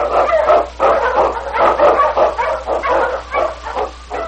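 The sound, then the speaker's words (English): A dog barks and yelps excitedly in a rapid, continuous string of loud barks with whiny yips mixed in, nearly a dozen bursts with no pauses and no voices. It is King, the Eskimo lead sled dog of Challenge of the Yukon. “The Wonder Dog King, swiftest and strongest of Eskimo lead dogs, blazes a trail through storm and snow for Sergeant Preston as he meets the Challenge of the Yukon.”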